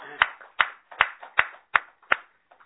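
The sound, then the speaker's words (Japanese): Hands clap in a steady, even beat as an audience celebrates the birthdays of three people turning 77, 71 and 63: six sharp, fairly loud claps about a third of a second apart, then a couple of faint scattered ones as the applause dies away. No one speaks. “盛大な拍手でお祝いです。”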